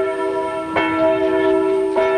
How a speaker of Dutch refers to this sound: Ja, en in de verte hoort u nu de klokken en dat betekent laat ons de rustdag wijden.